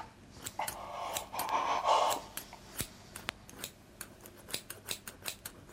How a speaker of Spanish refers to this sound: Ay, ¿qué vas a hacer con esas tijeras? Cortar la tela que cubre la quemadura.